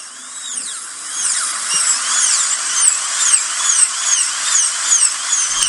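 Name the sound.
dental drill whirring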